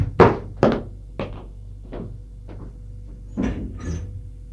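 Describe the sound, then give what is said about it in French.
A few dull knocks and thumps, like approaching steps, lead into a man opening the door of his home after the doorbell rings, with a soft latch clunk and a faint creak near the end. No one speaks. “On sonne à sa porte. Il va ouvrir.”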